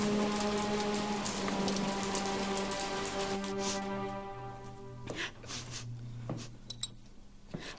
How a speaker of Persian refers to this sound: بابا بزرگ. ها چرا زیر بارون وایستادین؟ چی شده؟